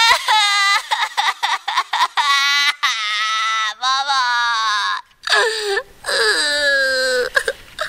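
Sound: child crying and wailing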